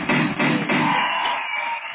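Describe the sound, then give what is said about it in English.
A burst of applause sound effect: dense, steady clapping and crowd noise that stays loud for about two seconds, then eases off slightly at the end. No one speaks over it. “I didn't mean to hit that applause away.”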